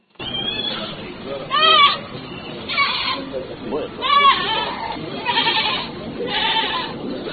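Repeated loud bleating of goats or sheep at a new veterinary clinic with pharmacy in Kindu, opened by the Institut supérieur d'études agronomiques et vétérinaires du Maniema, several wavering cries in succession over a steady murmur of background chatter and activity.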